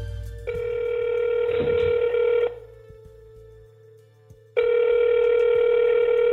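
An outgoing phone call rings on the line: two long, loud electronic ring bursts separated by a pause, with a faint steady tone humming underneath throughout.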